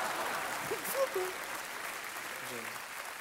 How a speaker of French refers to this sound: 16 millions de spectateurs dans le monde entier, un Oscar du meilleur acteur, je crois que rien que pour ça, bah, on peut vous applaudir.